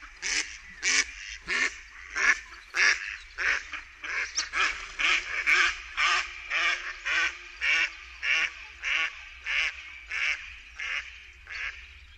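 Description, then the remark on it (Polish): A mallard duck quacks in a long, steady series of about twenty loud, nasal calls, evenly spaced, with no other sounds around them. “Jej głos to doskonale znane wszystkim kwakanie.”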